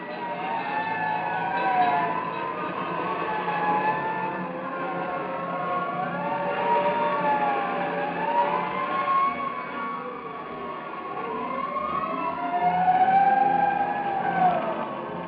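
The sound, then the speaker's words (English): Several fire engine sirens wail at once as every available piece of fire equipment responds to an alarm about an explosion at an old barn, their pitches rising and falling in overlapping sweeps over a steady rumble of engines, loud and continuous throughout with no voices. “And in the fire station, an alarm bell informs Fire Chief Frank Wilson of the explosion, galvanizes to sudden action every available piece of fire equipment.”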